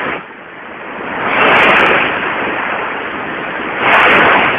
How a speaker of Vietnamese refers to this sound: Lúc này cả bọn đã tới sát bờ biển. Tiếng sóng dỗ vào bờ đá, ầm ào bất tuyệt.